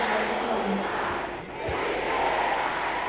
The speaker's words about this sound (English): Can you say this after me loud and clear? Louder than anyone around you. Every satanic obituary written against my destiny. Can I hear the sisters shouting this loud and clear?